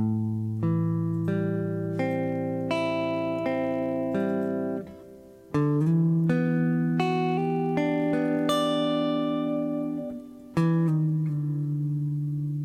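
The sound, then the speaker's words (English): A guitar plays a minor seventh chord at the fifth fret, using the same shape as an E minor 7, its notes picked in a steady, ringing sequence that repeats three times with brief breaks between. No one speaks. “I'll now rebuild that minor 7 chord shape again, like I used for the E minor 7, except here in the 5th fret.”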